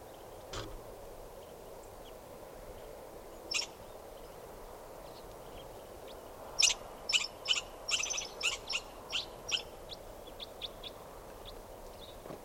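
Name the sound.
birds calling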